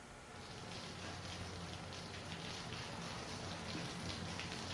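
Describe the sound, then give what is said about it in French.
Steady rain falls continuously, a dense hiss of drops pattering on a surface with a low rumbling undertone, even throughout, with no voices. “Oh, la pluie! On a besoin de toi, pluie.”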